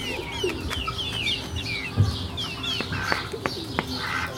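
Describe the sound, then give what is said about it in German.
A large duck calls among a flock of very young hens clucking and peeping, with busy overlapping bird chatter and a few sharp scratches. No one speaks. “Da hört man die Ente.”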